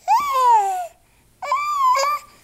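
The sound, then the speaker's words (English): A baby cries in two loud wails, each a sustained, strained high-pitched cry lasting under a second, separated by a brief pause for breath. No talking is heard. “And think about newborns.”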